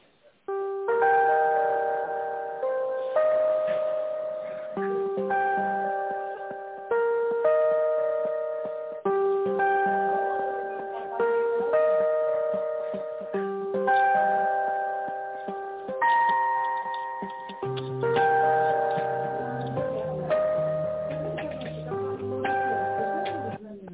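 phone ringing

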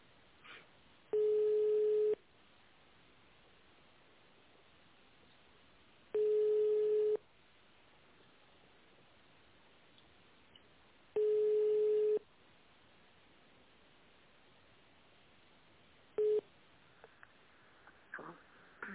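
telephone ringback tone

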